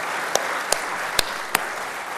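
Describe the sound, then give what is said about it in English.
An audience in a venue with pews applauds two speakers for their introductions, in a steady, dense wash of clapping, with four sharper, louder claps standing out near the front. No one speaks over it. “another round of applause for their kind introductions.”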